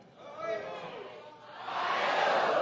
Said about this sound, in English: Making stuff in Ohio. How does that yell go again, the O-H thing?